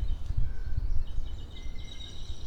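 many birds singing outdoors

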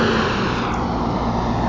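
big truck driving past

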